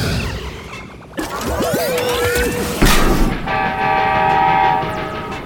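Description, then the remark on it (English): A loud train, Mighty Mila transformed back into a train, rumbles along the tracks headed for the Pflugerville water tower, its horn sounding briefly partway through, followed by clattering wheels and a sustained high metallic squeal of steel on rail. “She transformed back into the train?”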